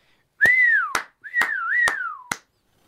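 A person whistles two short, wavering phrases, the pitch gliding up and down, while five sharp claps land among the notes. No one speaks.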